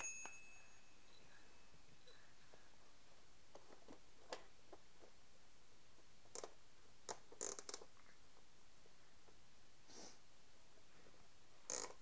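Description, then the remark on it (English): A small bell jingles in a few brief, scattered bursts, faint, with quiet background noise between the rings and no one speaking. “Can you make the bell go?”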